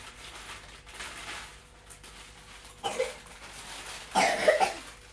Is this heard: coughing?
yes